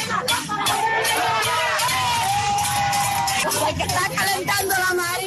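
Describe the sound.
A crowd of protesters in Campechuela, Granma province, shouts together on a Friday night during a cacerolazo demanding that electricity be restored. Many overlapping voices form a loud, steady roar of yelling and chanting, with sharp cries rising above it throughout.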